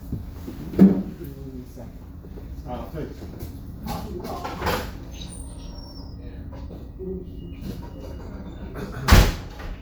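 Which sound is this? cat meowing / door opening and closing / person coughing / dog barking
door opening and closing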